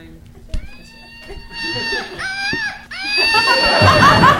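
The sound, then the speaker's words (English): A slingshot monkey toy is flung toward an audience, and its shrill, wavering scream rises and warbles loudly for several seconds, with a brief thump near the start and some background voices underneath. “Woot Monkey is a monkey that's also a slingshot. There it goes.”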